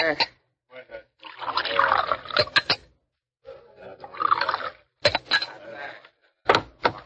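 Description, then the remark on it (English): A bartender pours drinks into glasses in two short gurgling bursts, punctuated by sharp clinks of glassware, with faint background murmuring between pours. “Pour the drinks, bartender.”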